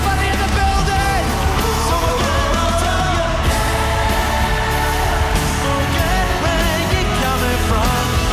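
A large concert crowd screams and shrieks continuously, many high-pitched voices overlapping into a loud, sustained wall of sound with no break for the whole stretch.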